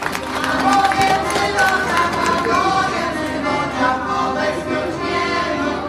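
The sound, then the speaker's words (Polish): An audience claps steadily for six seconds at the finale of the Dziedzictwa Kresów festival, a dense, even patter of many hands with a murmur of crowd voices and a few brief cheers mixed in. “I teraz mogą być brawa.”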